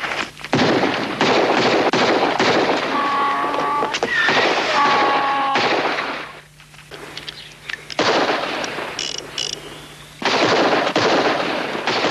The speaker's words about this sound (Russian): Вооружившись ложками, герои наклоняются над едой, как вдруг тарелки разлетаются от выстрелов.